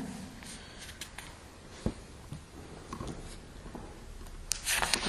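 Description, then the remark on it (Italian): Soft papery rustling and light flicks as book pages are turned, ending in a louder, brisker rustle near the end; fairly quiet, with no talking. “Ho girato troppe pagine.”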